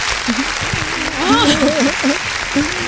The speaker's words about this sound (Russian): Огромные аплодисменты.